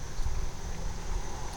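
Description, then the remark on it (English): Strong wind buffets the microphone as a storm seems to be coming, producing a steady low rumbling roar with uneven gusty surges throughout, fairly loud, with no voices. “And suddenly it's getting very windy.”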